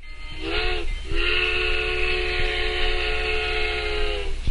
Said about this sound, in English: Sometimes this sound reminds me of the midnight train that took me back to Atlanta, Georgia.